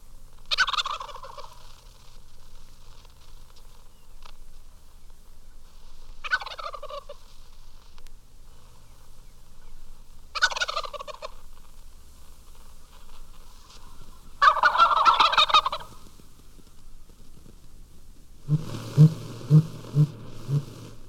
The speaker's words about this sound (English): The gobbling of wild turkeys is no longer heard north of Pennsylvania, but from Georgia to Arizona, they still occur in favored places. This is one of a flock on the Aransas Wildlife Refuge, Texas.